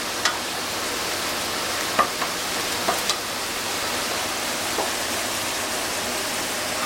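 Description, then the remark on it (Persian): Steady sizzling of meat and beans being sautéed in a pan with a little cinnamon, a dense hiss with a few sharp crackles and pops scattered throughout, with no talking. “کاملا روبو میذاریم یه تفت بخوره.”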